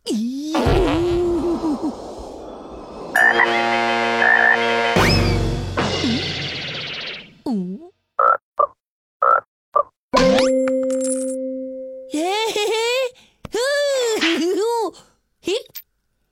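Cartoonish frog croaks mixed with squeaky, warbling sound effects as a cartoon little frog is urged to spit out a mushroom and a coin, arriving as a string of loud short bursts with brief pauses, the later ones quick and choppy.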